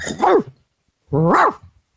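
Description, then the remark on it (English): A person imitates a big dog with two loud, deep barks about a second apart, each a short voiced woof. The second bark is slightly longer, with silence around both. “I need Cheryl to bark because Courtney Williams deserves the bark”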